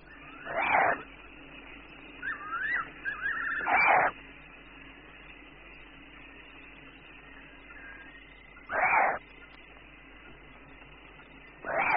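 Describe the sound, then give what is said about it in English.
Young spotted eagle owl nestlings begging for food at night: four loud, raspy hissing screeches at irregular intervals, with a few faint, squeaky chirps between the first two, over a steady low background hum. “Owls seek food for their hungry nestlings, and young spotted eagle owls are not too patient when it comes to waiting for a mouse.”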